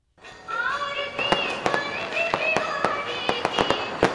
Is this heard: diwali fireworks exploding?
yes